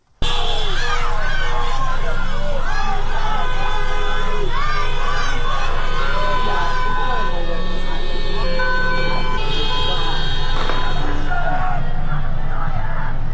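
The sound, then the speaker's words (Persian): A large crowd of residents in Tehran, Iran, chants protest slogans at night, many voices shouting together loudly and continuously, with high-pitched cries rising over a dense, steady roar of voices throughout. “از جمله کانون‌های این اعتراضات در تهران بوده است و صدای شعارهای شبانه ساکنان این مناطق در ویدیوها شنیده می‌شود.”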